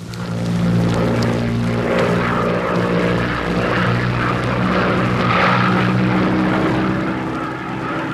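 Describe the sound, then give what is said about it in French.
A propeller airplane engine drones steadily in flight over hills in the evening, a loud, continuous low hum with a throbbing rhythm that holds its level throughout, with no voices present. “Les collines sous l'avion creusaient déjà leur sillage d'ombre dans l'or du soir.”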